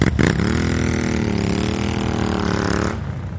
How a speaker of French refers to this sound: Alors, Spider-Man, un petit tour en moto.